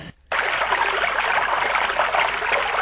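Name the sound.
babbling stream water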